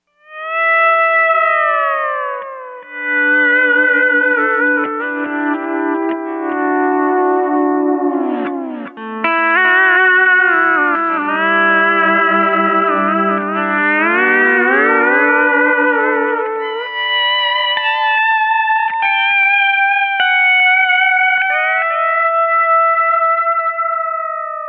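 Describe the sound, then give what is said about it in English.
An instrument played through a delay effects box with all its knobs set at 12 o'clock and the age-factor switch off, its sustained, gliding notes smeared with warm repeating echoes. Loud and steady for about twenty-five seconds, with no talking. “Well, there you can really hear the warmth this delay box provides, although that setting is a bit much for much of what we would want to do in contemporary music.”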